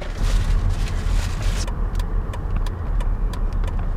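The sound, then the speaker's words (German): A car driving through a town at steady speed, heard from inside: a constant low engine and road rumble with faint intermittent ticking in the second half, and no one speaking. “Trotzdem fahren wir mit dem Auto durch die Stadt.”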